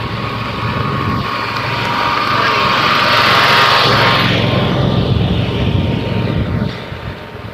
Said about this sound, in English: Okay, this is interesting. Mom and Pop out on their garden tractor riding along.